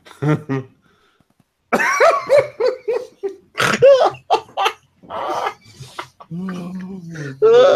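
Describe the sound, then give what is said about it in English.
A dog in the background makes a string of short, whiny barking noises in quick bursts, moderately loud, with some muffled voice sounds mixed in. “Meanwhile, your dog's in the background and saying, I'm jealous.”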